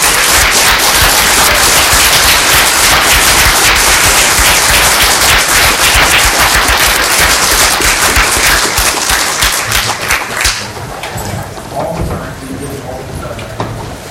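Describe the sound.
A crowd breaks into loud, dense applause that holds steady for about ten seconds, then thins out and fades, with faint voices emerging as the clapping dies down.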